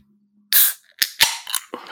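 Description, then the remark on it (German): A can of Spezi is opened with a loud, breathy hiss of escaping gas, followed by a few sharp metallic clicks and a crackle of fizzing. No one speaks. “Oh, ist das ein Geräusch? Ja, die Sonne scheint draußen in der Spezi, das sage ich auch noch jetzt schon mal.”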